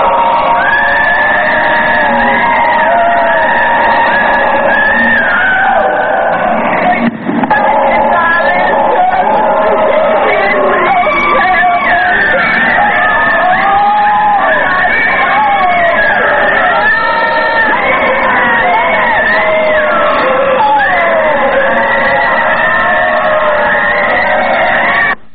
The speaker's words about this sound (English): At first, we thought the sound was coming from our own equipment. But when we made adjustments, our worst suspicions were confirmed. The screams weren't those of a single human. They were the screams of millions of humans.